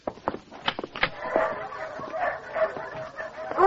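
A chorus of dogs barking, yipping and whining at once in the kennels of a dog pound, sharp overlapping barks giving way to a steady, echoing din of excited yelps.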